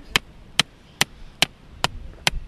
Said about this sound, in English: Reynolds hammers wooden stakes around a turtle nest that was wiped out by Tropical Storm Debbie back in June.